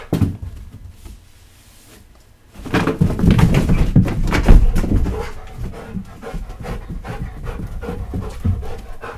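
After a couple of quiet seconds, a dog breaks into rapid, heavy panting, with a few sharp barky bursts mixed into the steady breathing.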